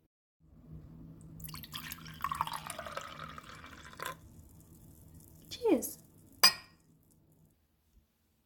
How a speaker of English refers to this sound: Just make yourself comfortable and I'll pour us some wine.